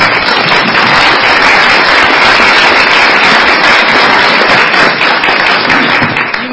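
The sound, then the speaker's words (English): An audience applauds the state's debt manager as he stands up at a Maryland state government event with the Governor, a dense, loud wash of many hands clapping steadily for several seconds with no individual claps standing out. It holds evenly throughout and eases slightly at the very end. “Why don't you stand up so we can give you a big round of applause.”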